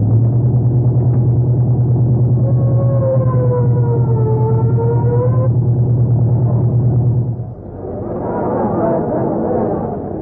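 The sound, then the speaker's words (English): A car engine drones steadily and loudly for several seconds while a siren wails over it, as a police captain is driven to a murder scene at the Crescent Garage on the east side; then the engine stops and a murmuring crowd takes over. “Yeah, step on it,”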